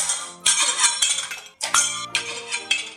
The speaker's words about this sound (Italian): I 5 attraversarono la stanza dello sguattero rompendo tutti i piatti.